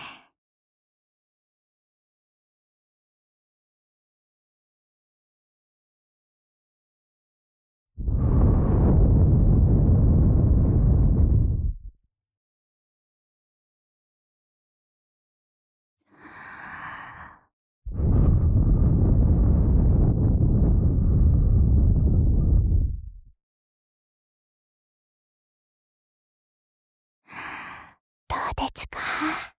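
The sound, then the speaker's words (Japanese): Two long, loud breaths blown into the ear, each a broad whooshing gust lasting a few seconds, with soft breathy sounds between and a quiet pause before the first. “お耳がすっきりして、ママの吐息がよく通るようになりましたか。”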